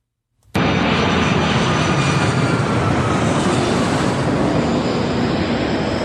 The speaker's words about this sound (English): A plane lands in the background and Danny walks away.